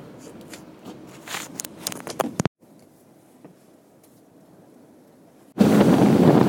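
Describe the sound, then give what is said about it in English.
Crackling, buffeting wind noise gives way to a quieter low rumble, then a fast motorboat heading back at full speed roars in abruptly and loudly with rushing wind, staying steady to the end. “Das Boot kann ganz schön schnell und ganz schön laut.”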